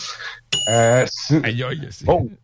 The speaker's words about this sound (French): Aïe, la sonnette.